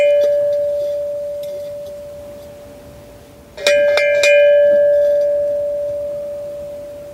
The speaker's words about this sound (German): Wir haben auch mal, also die Restauratoren schlagen immer die Hände über dem Kopf zusammen, aber die Glocke ist wirklich total super erhalten, deswegen haben wir sie auch mal geläutet.